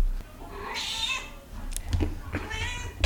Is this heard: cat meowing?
yes